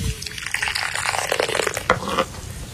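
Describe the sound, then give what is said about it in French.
Coffee pours steadily into a clay coffee pot and is poured back through its top spout to mix the ground coffee with the water, a continuous splashing gurgle with a couple of brief louder sloshes near the end; no one speaks. “Et puis on verse, et puis on reverse.”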